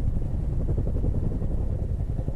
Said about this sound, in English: By 5 a.m, we were sat in the middle of a frozen field, listening to our helicopter leave, waiting to see what battle awaited us at first light.